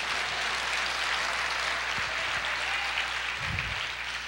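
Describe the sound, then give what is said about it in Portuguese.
An audience applauds the Lord during a sermon in a dense, steady wash of clapping that holds at an even, fairly loud level for the whole few seconds, with no voices standing out. “Aplauda o Senhor, diga: eu creio na existência de Deus.”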